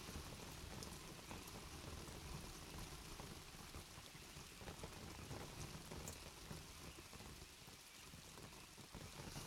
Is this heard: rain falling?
yes